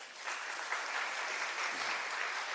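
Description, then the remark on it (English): A crowd claps steadily for a woman who has shared her story, a dense, even wash of many hands applauding together that holds at a constant level throughout, with no voices standing out. “Give her a clap.”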